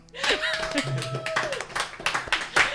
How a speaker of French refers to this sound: Un tonnerre d'applaudissements